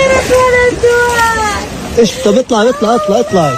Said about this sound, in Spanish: Este era el llanto de una mujer gazatí totalmente rota tras ver su tienda de campaña inundada por las fuertes lluvias y, como la de ella, miles en las que siguen malviviendo desplazados han quedado también afectadas.